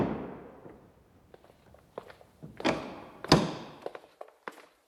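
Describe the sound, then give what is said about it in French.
A heavy door of a historic apartment building is unlatched and swung open, with a series of clunks, knocks and a sharp thud, followed by a few lighter taps as it settles. No one speaks. “Quelques secondes après, la porte s'ouvre sur un immeuble chargé d'histoire.”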